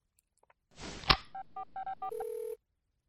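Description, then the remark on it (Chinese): A phone handset is picked up with a click, then five quick keypad tones beep in a steady rhythm, followed by a short ringing tone, as someone phones a school to report a child absent. Clear, with no talking. “贱狗这就去打电话帮主人给学校请假。”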